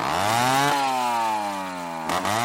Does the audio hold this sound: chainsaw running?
yes